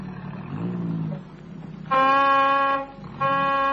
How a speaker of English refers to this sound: there's the car. Yes, sir, it sounds like them.